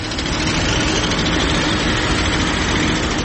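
A deep, continuous roar of heavy Chinese mining machinery tearing into the mountainsides at gold mines in Badakhshan, Afghanistan, runs steady and loud through the whole stretch, a dense low-pitched rumble with no breaks and no voices.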